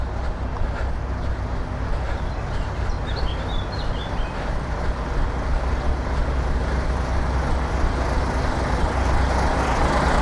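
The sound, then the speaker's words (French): Trucks rumble past on a road in a loud, continuous wash of engine and tire noise, with deep low-end drone throughout and a few faint bird chirps briefly above it. “Allez les camions! Allez les camions!”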